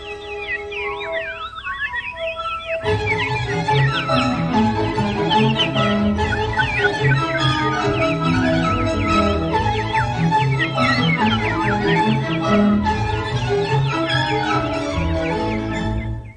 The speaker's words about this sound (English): Those are birds.